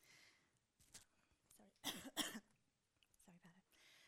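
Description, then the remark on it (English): Two quick muffled coughs in the middle of a quiet stretch, made by a speaker who has moved away from the microphone, with faint breathy noises before and after. “Didn't want to cough and echo it.”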